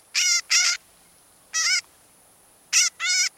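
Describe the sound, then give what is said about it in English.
A northern shrike gives harsh, buzzy calls in short bursts: a pair, a single one, then another pair, loud against a quiet background with no talking. “The northern shrike breeds in the tundra and taiga of the north, but migrates south for the winter”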